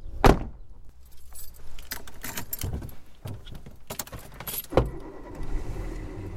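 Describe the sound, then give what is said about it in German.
Keys jingle and a car door thumps shut, then an engine turns over and rumbles steadily as the car pulls away, with another thud near the end; someone from a student shared flat in Kalbecht is driving off to go grocery shopping. “Dann kann ich ja fahren, ich habe ja ein Auto.”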